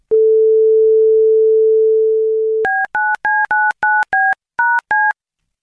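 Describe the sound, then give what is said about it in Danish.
A steady, low telephone dial tone hums for a couple of seconds, then eight quick touch-tone keypad beeps follow in a brisk, slightly uneven rhythm before the line goes silent, as a Radio 4 journalist calls the Lægerne Margrethe Svar doctors' clinic in Vojens, Denmark. “Kommer der en hyldetone?”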